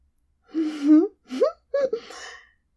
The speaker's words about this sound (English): Oh, I like the way you gasp when I reach back and spread my ass cheeks open and show off this tight little hole of mine.